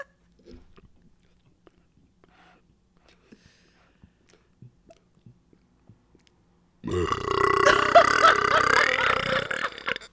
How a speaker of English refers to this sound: Dude, you burp like a bad guy in a TV series. I love it.